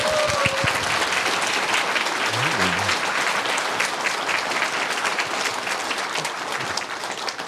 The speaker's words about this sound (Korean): 예, 마지막으로 우리가 오늘 이렇게 이런 찬양을 드리고 또 우리가 기뻐할 수 있으면 우리 주님께서 부활하셨기 때문입니다. 우리 부활하시고 살아계신 우리 주님께 감사의 박수를 보낼까요?